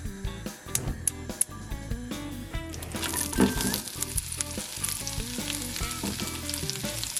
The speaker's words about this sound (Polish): W międzyczasie, kiedy cebulka jest na patelni, my zajmiemy się krojeniem pozostałych części, czyli ogórka i pomidora.